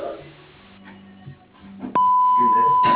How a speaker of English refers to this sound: For tree service and all other related business, please leave a message, including your phone number, at the tone.